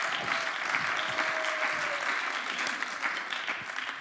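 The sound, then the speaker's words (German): Steady applause from an audience for a person called up onto the stage, a dense wash of many hands clapping at an even level for several seconds, with a faint tone briefly sounding through it. “Ein Applaus”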